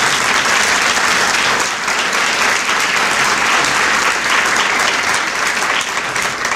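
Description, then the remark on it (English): An audience applauds steadily for several seconds, a dense, loud wash of many hands clapping at an even level with no voices standing out. “You can clap.”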